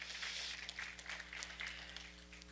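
A church audience claps steadily for God's glory, a dense wash of many overlapping hand claps at moderate loudness, with a low steady hum running underneath throughout.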